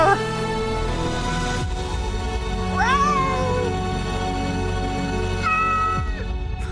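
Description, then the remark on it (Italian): A cat meows twice, a rising-and-falling drawn-out cry followed later by a shorter, higher call, both heard over a steady, dense musical background. “La zampata, la zampata sul vetro. La zampata sul vetro che scende. Miau, miau.”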